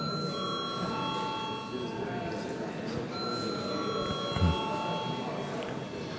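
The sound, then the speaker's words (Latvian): A steady electric bell rings continuously for several seconds, a sustained bright tone over a low murmur of voices and shuffling; it is the voting bell in the Saeima, the Latvian parliament, rung before a vote. “Paldies, lūdzu zvanu.”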